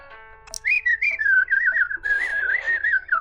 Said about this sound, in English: and he makes the claw very flat, and he gently sort of sticks it in the side USB port of your datapad, and then he, again, the head spins around twice 360 in one direction, and then one back in the other, and he starts beeping and whirling excitedly.